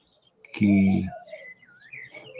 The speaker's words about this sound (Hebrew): אתם שומעים את הציפורים?